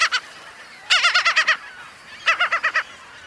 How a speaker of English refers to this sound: Although a fixture on many beaches, most gulls aren't truly seafaring birds. Most never venture far from the shoreline.